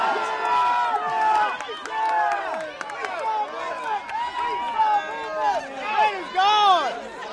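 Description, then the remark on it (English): At a croquet tournament, a crowd of locals cheers and shouts in excitement as the perennial winners are knocked out, many overlapping raised voices whooping in a loud, continuous swell that surges and dips over several seconds with occasional sharp claps or bangs. “Even though the trophy has never been awarded to a team from outside the county, the locals still erupt in excitement as the perennial winners are knocked out.”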